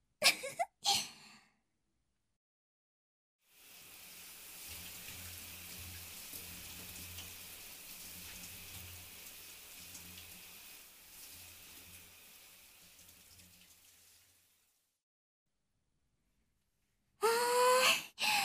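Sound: shower water running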